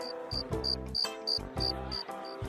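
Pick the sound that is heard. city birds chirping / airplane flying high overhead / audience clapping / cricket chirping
cricket chirping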